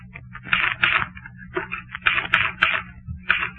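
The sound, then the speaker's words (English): Irregular bursts of clattering keystrokes on a typewriter keyboard, clustered in quick runs with brief pauses between, bright and clicky over a low steady hum. “Painfully, oh, so painfully, I got one hand on the keyboard.”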